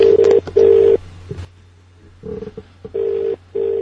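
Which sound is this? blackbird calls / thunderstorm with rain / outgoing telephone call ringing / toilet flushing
outgoing telephone call ringing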